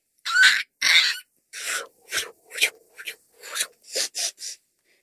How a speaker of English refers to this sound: Looks like Chirpy is sniffing the time machine, which is strange for a bird because birds don't have the sense of smell. But dinosaurs do, and that thing is part dinosaur.